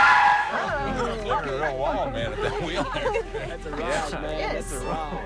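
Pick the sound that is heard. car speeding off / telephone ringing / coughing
car speeding off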